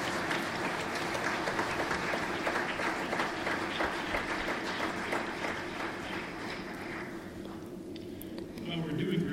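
A community audience breaks into sustained applause for itself, celebrating the success of its programme, dense steady clapping from many hands that stays loud throughout and tapers slightly toward the end.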